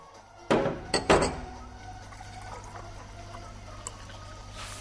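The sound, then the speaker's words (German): Liquid splashes into glasses in a few quick bursts with a light clink, then a low, steady hush follows with no one speaking. “Voilà, meine Damen, die Getränke.”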